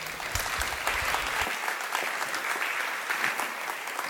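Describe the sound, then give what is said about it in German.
An audience applauds steadily to welcome a Wikimedia speaker giving a talk on freedom of panorama, a dense wash of many hands clapping at a fairly loud, even level throughout, with no voices on top. “Einen großen Applaus, herzlich willkommen.”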